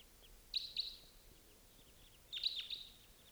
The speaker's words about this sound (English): Here comes a bird.